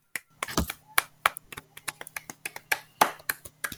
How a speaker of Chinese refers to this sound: 那首先呢，就是这是我们第一季的最后一集，来我们掌声鼓励。